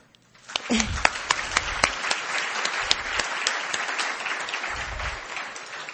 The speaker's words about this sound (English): Can you put your head in here? And can we give you an applause, too?